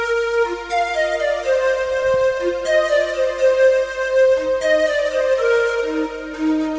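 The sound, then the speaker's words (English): An electronic keyboard plays a slow run of sustained, harmonically rich notes, with a soft choir-like vocal layer blended underneath. The tones are steady and fairly loud, with no talking. “That's kind of nice because it's got a layered voice behind it.”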